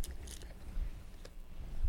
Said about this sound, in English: To stay strong and healthy, the brown horse eats all day. In the stable or the field, he munches on some hay.